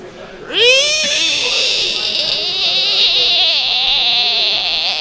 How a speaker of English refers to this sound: It's a screaming frog. And to put it away, aren't we all screaming frogs? We're all screaming. Like. Actually, I think it's a toad, but whatever.